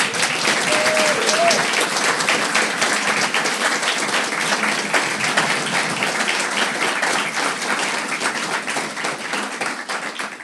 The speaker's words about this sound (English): So it's great that we're able to sort of cross-pollinate and give a big round of applause and a hello to Dr. Hoppe to begin.